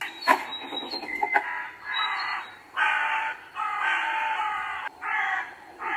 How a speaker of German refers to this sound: Und man hört eben auch diese Krähen im Hintergrund.